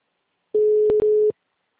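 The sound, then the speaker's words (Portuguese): One steady, low-pitched telephone ringback tone on an outgoing call that has not yet been answered sounds for under a second, broken by two brief clicks, with no one speaking. “Eu tô no telefone, só não atendeu ainda.”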